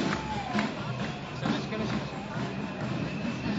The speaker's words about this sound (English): and we're at the demonstration Saturday night in Tel Aviv. It's a demonstration.